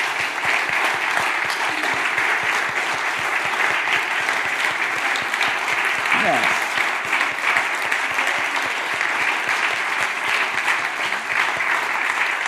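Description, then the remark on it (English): Sustained applause from a large audience for the people standing who have been mother figures, a dense, steady wash of many hands clapping at even loudness throughout, with no speech over it. “Let us clap for us, because I believe the same thing.”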